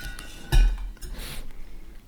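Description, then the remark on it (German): A bottle of rosé wine is set back into a cooler with a single solid clunk and a brief clink, followed by faint rustling and a soft hiss, with no voices. “Und, ja, und stell den mal zurück in den Kühler.”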